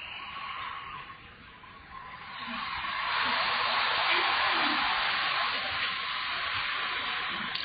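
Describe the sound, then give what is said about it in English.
A bus or truck passes on the road, its steady tire and engine roar swelling louder midway and staying strong before easing slightly, with no voices. “Don't push against the bus or truck passing, the horn.”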